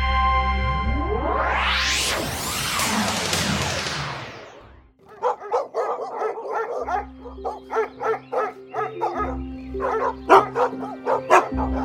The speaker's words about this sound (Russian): А что это за лай? Это охотится костромской князь Василий Квашня.